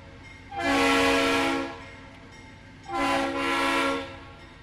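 A train horn sounds two long, loud blasts separated by a short pause, its chord ringing full over a faint rail rumble as a railroad train passes, with no voices.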